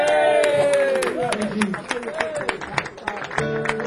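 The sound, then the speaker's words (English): A crowd bursts into applause, a dense patter of many hands clapping, mixed with cheering and whooping voices that rise and fall throughout. “we have to do it because big round of applause.”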